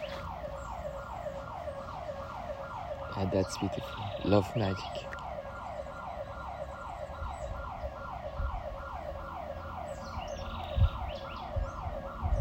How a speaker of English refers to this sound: Well, there's the alarm. I'm going to tell you, hey, everybody, listen. Wake up. It's morning time.